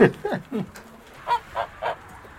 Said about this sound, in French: On a une poule qui a pondu.